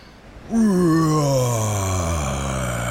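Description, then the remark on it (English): A person lets out one long, loud pirate-style roar after a big inhale, their voice starting high and sliding steadily lower as it holds for over two seconds after a brief quiet moment. “That was a big roar.”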